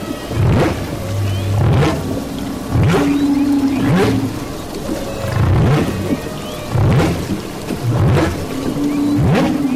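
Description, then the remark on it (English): Humpback whale song recorded underwater with a hydrophone tossed into the water from a 20-foot research boat: low, droning moans and rising swoops repeating in a steady rhythm, with whooshing upsweeps between them, loud and continuous with no voices. “Darling quickly tosses a hydrophone, an underwater microphone, into the water and begins recording the whale's haunting song.”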